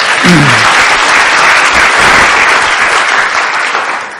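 A crowd bursts into sustained applause, a dense, loud wash of many hands clapping that holds steady before tapering slightly at the end, with a brief voice or cheer at the start.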